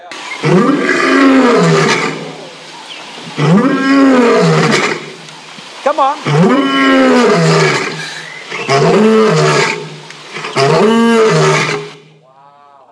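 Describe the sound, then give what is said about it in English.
A crowd of people roars in imitation of a lion, five loud, drawn-out bellows with short gaps between them, followed by a brief spoken remark at the end. “Everyone say roaring lion. I want you to yell lion. Give me some volume here.”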